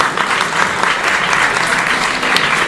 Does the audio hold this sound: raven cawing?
no